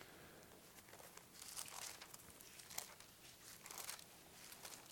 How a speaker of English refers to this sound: I love to hear those pages turning.